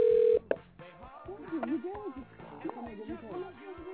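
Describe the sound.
A short, steady telephone dialing tone sounds loudly for under half a second as someone is called back on the phone, ends with a click, and then people start talking.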